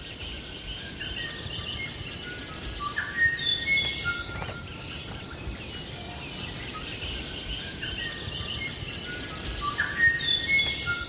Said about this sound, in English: You need good young ears to be able to hear it clearly. With all the birds in the background, it could be tricky to hear it. But if you listen carefully, you will notice that high-pitched squeak.